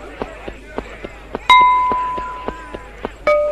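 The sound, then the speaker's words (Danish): Quick, evenly spaced running footsteps patter along in a steady rhythm as a player in a game runs from left to right across a tennis court, interrupted twice by a bright, ringing chime that lingers and fades. “Jeg kan prøve at løbe fra venstre til højre.”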